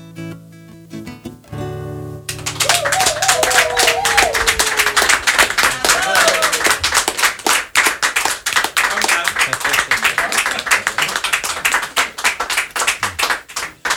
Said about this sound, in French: On applaudit encore